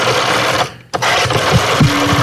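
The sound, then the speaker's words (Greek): The dial of a rotary telephone, the main phone in a studio, whirs in steady, buzzing mechanical bursts, pausing briefly once before spinning again, loud and without talk. “Είναι το κύριο τηλέφωνο στο στούντιο αυτό. Με τη ρόδα.”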